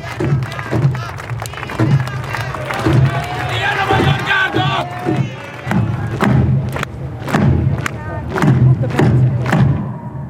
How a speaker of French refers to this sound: Ils sont plus de 1000 à débarquer sur la place des héros de la nation, la place la plus importante de Budapest, sous les applaudissements du public et sans un cri de protestation.